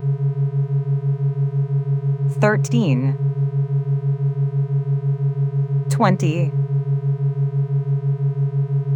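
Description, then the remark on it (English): A steady electronic sine-wave hum drones continuously with a faint regular pulsing, while a voice speaks two short words over it. “A mathematical hum.”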